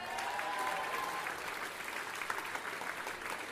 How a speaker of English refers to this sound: So give him a huge round of applause again, please.